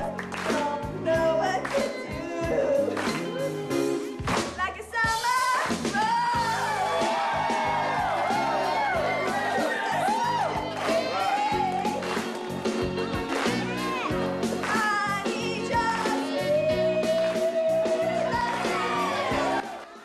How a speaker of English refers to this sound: Shaking her head, she joins in with the clapping.